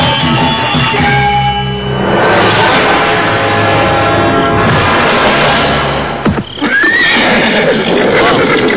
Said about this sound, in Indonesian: Aku mendengar derap kuda menuju kemari.